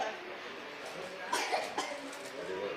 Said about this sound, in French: Ma fille qui tousse.